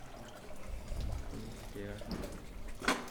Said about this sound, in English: So you can come for a moment. There's again some water.